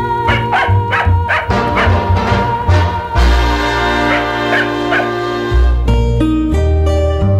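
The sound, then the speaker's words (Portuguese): A dog barks repeatedly in short, loud bursts over a busy musical backing in a song, the barks sharp at the start, then mixing into the steady music. “Mau e refilão, eu por sua causa já me tornei popular.”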